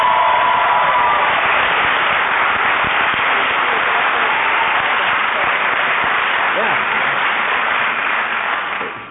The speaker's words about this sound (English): Not just your family members who are cheering. That's good.